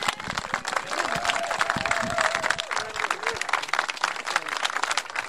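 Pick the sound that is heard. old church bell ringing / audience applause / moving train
audience applause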